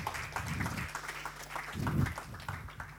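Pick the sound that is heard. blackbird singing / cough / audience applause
audience applause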